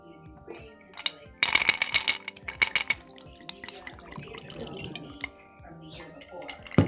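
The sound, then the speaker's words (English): Cognac splashes and trickles into a glass in a burst of bright, bubbling pours lasting a couple of seconds, followed by softer drips, with faint background voices and a steady hum underneath. “So I want y'all to hear our first drink on the official podcast. Get poured.”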